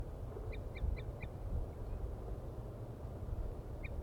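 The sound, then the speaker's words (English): Wild birds up in the top of a deciduous tree, about 50 to 60 meters off, give a quick run of four short, clipped calls, then a lone call after a pause, all fairly faint over a steady low rumble of background noise. “The birds are still up in the trees tooping.”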